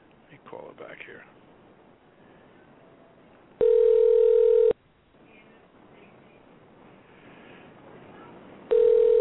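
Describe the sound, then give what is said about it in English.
A ringback tone sounds twice on a phone call placed to call back someone whose call dropped off, each a steady, loud, buzzy hum about a second long, separated by a long quiet gap with faint line noise and brief murmuring at the start. “Well, it's ringing.”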